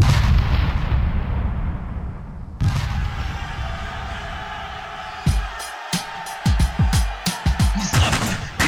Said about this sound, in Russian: Пальба, огонь, поднимается пыль, цинковая вонь. Повсюду выстрелы и стоны, слышно на верхней ступени.